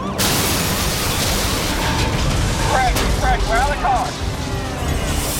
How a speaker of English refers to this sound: But the suspect either doesn't see the roadblock or he doesn't care. He doesn't even hit his brakes and slams into the parked cruiser at over 100 miles per hour.